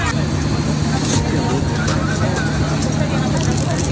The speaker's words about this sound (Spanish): Escucha algo, pero es el silencio de un vagón prácticamente vacío.